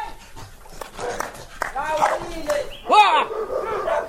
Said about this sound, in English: By clapping, shouting, and whistling, this three-man team begins to nudge the troop out of the village and into a grove of pine trees.